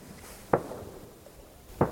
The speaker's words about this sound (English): With no stores on Konok, hunting and fishing are especially popular. It's reindeer season when I visit. Can hear the gunshots echoing around the fjord.